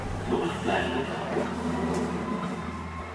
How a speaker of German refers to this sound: Jetzt ist sie weg, die U-Bahn.